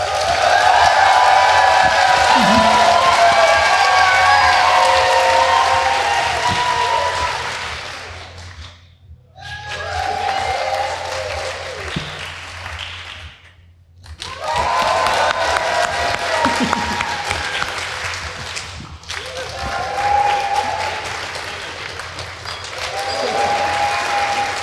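A crowd applauds loudly and steadily as a clap-off vote between two women contestants, with scattered cheers and whoops over the clapping. It drops out twice for brief gaps before swelling again.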